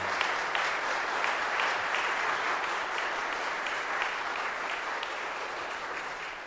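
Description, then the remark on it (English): A church audience applauds on Jazz Sunday to thank a band for being there, dense overlapping clapping for several seconds at an even, fairly loud level with no voices standing out. “And so before we go on, though, just a clap offering of thank you for … being here today with us.”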